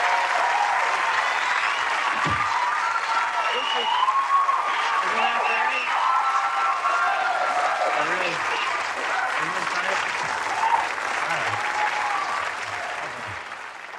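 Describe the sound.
Sustained television studio audience applause greeting Gilda Radner, a dense, steady wash of clapping that keeps up at full strength for the whole stretch, with a few voices calling out and cheering within it.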